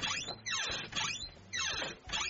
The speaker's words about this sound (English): So my son has this door, it's really squeaky, and I was wondering if you'd fix it. Oh, squeaky door? Yeah, that's easy, I can do that. Just show me. Okay, it's over here. Alright, here's the door. Listen.